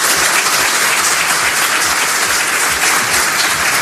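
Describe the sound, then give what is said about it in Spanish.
Loud, sustained ovation from a large crowd of judges and prosecutors after the president of the Supreme Court finished speaking, a dense steady roar of many hands clapping at once with no pauses, holding at full strength throughout. “Así que los jueces y fiscales, que no son tontos, cuando terminó a continuación la presidenta del Tribunal Supremo, que opinó en contrario del fiscal, se arrancaron en una fuerte ovación cerrada.”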